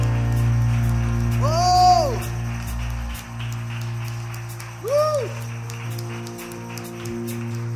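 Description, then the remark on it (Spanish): A crowd claps steadily for Jesus, a dense wash of applause over a low hum, with two rising-and-falling whistles cutting through near the start and again midway. “Yo creo que puede ser más fuerte ese aplauso.”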